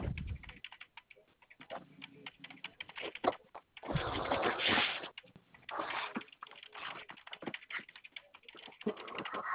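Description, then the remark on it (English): Steady clicking of keys on a computer keyboard, quick irregular taps with a brief denser burst midway; no one speaks. “Sorry, my keyboard is”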